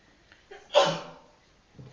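A single sharp sneeze, with a short intake of breath just before the burst and a quick fading tail afterward.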